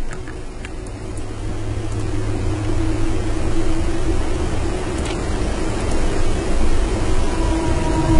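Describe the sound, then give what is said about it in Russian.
A steady, loud rush of water pours without pause, a broad noisy roar with a low hum underneath, like a waterfall's ambience in a video game. “Слишком громкий этот водопад.”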